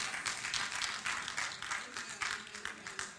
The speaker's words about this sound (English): Somebody clap.